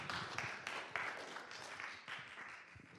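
A crowd applauds with steady, dense hand clapping, a continuous crackle of many overlapping claps at a moderate, even level with no voices over it.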